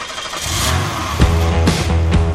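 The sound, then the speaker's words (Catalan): The diesel engine of a Volkswagen Tiguan SUV test car turns over and settles into a steady, low rumbling idle, with a few soft clunks as it begins to pull away. No one speaks. “Ens posem en marxa i, tot i que la unitat de prova va equipada amb un motor dièsel, és poc sorollós.”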